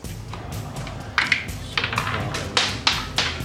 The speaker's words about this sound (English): Dice flying everywhere.